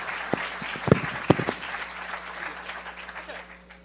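A crowd applauds with dense, steady clapping that rises quickly, peaks with a few sharp louder claps, then gradually thins and fades over about four seconds.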